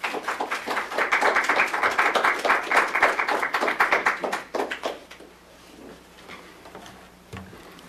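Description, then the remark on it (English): Audience applause as a speaker is welcomed: a dense, steady burst of many hands clapping for about four seconds, then thinning out into scattered claps before fading to quiet. “I always feel guilty getting applause before the product.”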